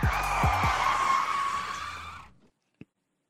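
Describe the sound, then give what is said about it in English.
A brakes-screeching sound effect: a loud, sustained high-pitched squeal lasting a couple of seconds, opening with a few low thumps, then cutting off abruptly before one short click. “Oh, hit the brakes.”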